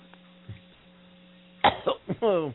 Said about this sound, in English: So, let me just clear my throat.